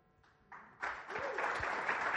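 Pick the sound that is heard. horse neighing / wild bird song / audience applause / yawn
audience applause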